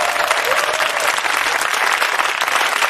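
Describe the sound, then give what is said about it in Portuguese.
A crowd applauds steadily, dense clapping filling the whole stretch at a loud, even level with no voices standing out. “Libertad para aplaudir ahí.”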